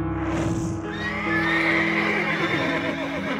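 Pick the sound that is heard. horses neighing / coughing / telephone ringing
horses neighing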